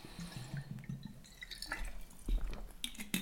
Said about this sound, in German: Und ich nehme jetzt noch kurz einen Schluck Wasser.